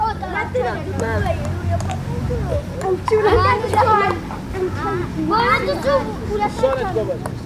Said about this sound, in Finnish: Siinä kuultiin äänimaisemaa Etiopiasta. Ensin autolla ajoa vuorilla, joka on varmaan aika erilaista kuin täällä Suomessa autolla ajaminen. Ja sitten lapset pelaamassa pingistä.